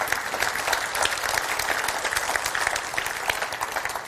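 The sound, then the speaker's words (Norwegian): An audience claps steadily, giving an applause to God, dense overlapping applause with a constant bright crackle sustained at an even level throughout, with no voices standing out. “Ja, du kan gi en applaus til Gud for det.”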